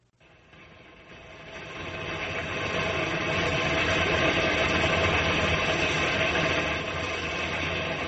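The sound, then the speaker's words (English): An old train engine chugs and rattles at a slow, uneven pace in a rainstorm, its mechanical clatter swelling from quiet to a loud, steady roar, with no voices. “There must be something wrong with that engine. It's sure going slowly.”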